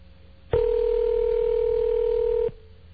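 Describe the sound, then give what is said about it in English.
One steady telephone ringback tone sounds for about two seconds over a phone line while calling a business in Philadelphia, clear and fairly loud, then cuts off, leaving a faint line hum before and after. “More ring.”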